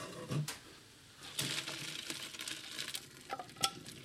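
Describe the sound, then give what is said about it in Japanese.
Hot water and thin slices of seeded yuzu, briefly boiled to blanch them, pour into a colander with a splashing, hissing rush, followed by brief clinks and wet rattles as the strainer settles. No voices. “沸騰してくると、すごい柚子のいい香りがしてきますので、少し沸かしたら、ザルにざーっと開けていきます。”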